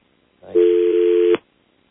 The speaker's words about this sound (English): Would you dial him up? No. Get him on the phone. Ring him up. Oh, thank you. I'll dial it.